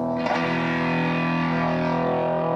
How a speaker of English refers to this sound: A distortion pedal, which overloads the signal. Overdrive the sound and make it sound pretty rude. Rude.